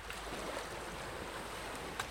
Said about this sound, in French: Vous êtes au bord du lac à nouveau. Il fait très chaud. Les vagues sont là. Vous entendez beaucoup plus le bruit des vagues que le bruit du vent. Le bruit du vent est caché par le bruit des vagues.